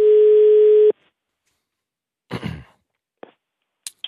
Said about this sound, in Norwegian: Ja, vi får se om vi får ringetone her nå da.